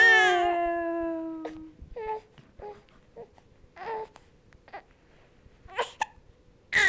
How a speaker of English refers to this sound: Those old hiccups hurt. Say, well, Daddy, we have to go for a minute so we can go eat our lunch and get rid of the hiccups.